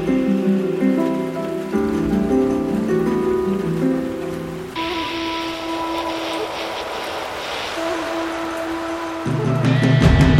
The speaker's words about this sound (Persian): تمام گوش های خانه را از ابر پر کردم. بزن با پنجره حرف دلت را، پچ پچ باران.